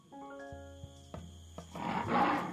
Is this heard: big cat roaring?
yes